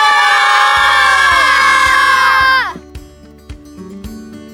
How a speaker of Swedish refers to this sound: Då ska jag gratulera till turneringssegern och ja, en bra insats utav hela Rå. Kan vi få höra Rå jubla? Ja!